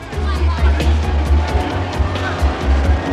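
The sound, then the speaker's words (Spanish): Busy street traffic in Manhattan, New York, rumbles steadily, a dense continuous wash of engine noise mixed with indistinct crowd chatter and occasional sharper bursts, while a policeman directs the traffic. “Un policía dirige el denso tráfico.”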